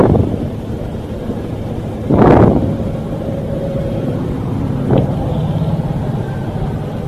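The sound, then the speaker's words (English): A train rumbles past with a steady low roar, a rushing surge partway through, a sharp clack a few seconds later, and a faint high whine running underneath. No one speaks. “Here comes the train.”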